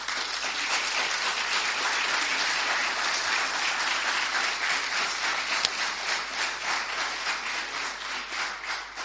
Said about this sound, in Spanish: y a los que les dedico el primer aplauso para ellos.